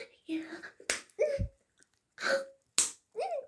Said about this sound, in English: Please slap me. Make it hurt.